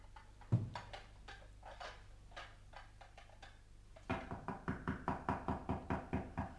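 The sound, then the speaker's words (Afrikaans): A thud, then a run of about a dozen steady, evenly spaced, distinct raps on a door, with faint clinks and shuffling in between, while people are eating. “Wie klop nou so?”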